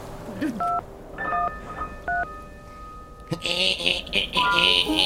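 telephone number being dialed

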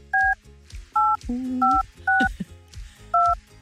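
phone number being dialed

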